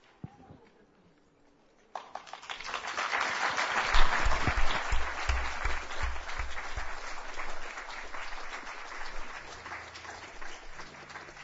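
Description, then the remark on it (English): Near-silence gives way after about two seconds to a sudden burst of audience applause, a dense wash of many hands clapping that swells, then holds steady and slightly fades toward the end. “I think we can do better with our applause.”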